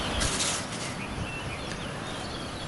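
Faint birds chirp over a steady, rushing wash of waves, with no voices present.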